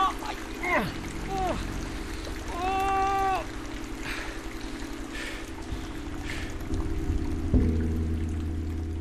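Steady heavy rain hisses continuously throughout, with a few strained voices crying out over it and a dull thump near the end.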